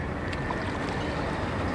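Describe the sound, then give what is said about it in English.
Gentle, steady lapping of calm water around a small boat on San Francisco Bay at sunrise, with a couple of faint paddle splashes as the paddler heads away towards the city. No voices. “paddling away towards the city.”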